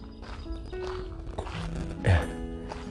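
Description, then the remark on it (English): A hairy woodpecker with grey wings and a red mark on its head knocking on a tree: a series of hollow, irregular taps, some louder than others, over a steady low background hum. “Ah, you can hear him. There you go, can you hear him? He's knocking away at a tree.”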